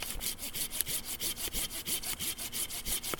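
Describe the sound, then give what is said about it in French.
A Japanese-tooth pull saw rasps steadily through a low branch along a tree trunk in quick, even strokes, a bright scratchy rhythm of about four strokes per second, with no talking. “Pour couper les branches basses comme ça le long du tronc, j'ai ce qu'on appelle une scie à denture japonaise.”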